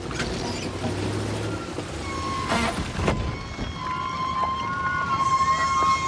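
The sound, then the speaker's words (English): A minibus rattles and jolts along a narrow, rough dirt path cut into a steep mountainside with a steady rumbling engine, then the whining drone of a pair of motorbikes approaching from the opposite direction rises over it, loud. “The minibus jounces along the rough path. pair of motorbikes approach from the opposite direction.”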